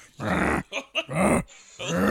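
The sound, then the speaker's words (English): A person imitates a walrus, called a Jeff Goldblum impression, with deep, raspy, growling grunts: a long burst, a couple of short choppy ones, then another long rumble, loud with no other talk. “Is that a walrus? Yeah, that's the noise.”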